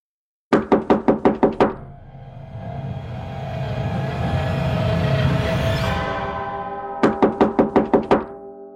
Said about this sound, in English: Something, someone, banged on the door urgently.